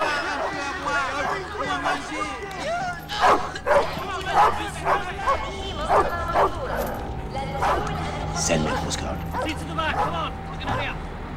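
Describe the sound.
A dog barks repeatedly in short, sharp bursts, some followed by yips and whimpers, over a steady background of indistinct voices and crowd murmur, beside cages and armed guards as a line of fugitives is marched to a single-decker bus.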